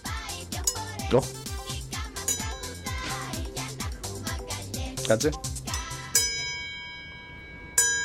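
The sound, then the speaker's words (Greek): A bell is struck twice near the end, each strike ringing out with a long shimmering decay, after a busy stretch of rhythmic music and a brief spoken word. “γιατί χτυπάνε καμπάνες, θα χτυπήσουμε και εμείς καμία καμπάνη.”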